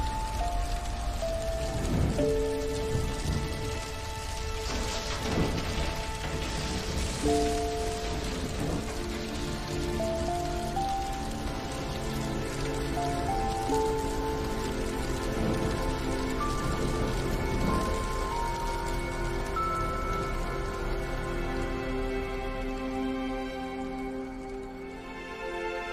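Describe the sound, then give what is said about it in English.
A house fire burns and crackles steadily for the whole stretch, a dense hiss of pops with sustained musical tones running underneath. No one speaks. “Flames eat through her wedding photo.”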